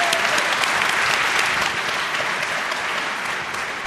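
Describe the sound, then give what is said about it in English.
Sustained applause from an audience welcoming presenters from the Logistics Operations Center, a dense steady patter of many hands clapping at an even, loud level throughout, with no voices breaking through. “So, welcome with a warm round of applause, Locke.”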